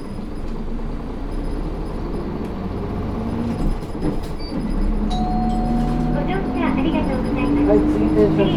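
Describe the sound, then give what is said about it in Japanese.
A bus engine rumbles low and steady, then its whine climbs in pitch as the bus pulls away from the Shin-Muromi stop and gathers speed, with faint clinks and muffled voices inside the cabin as the driver announces departure toward the next stop, Ishimaru Shinmachi. “動きますのでご注意ください。”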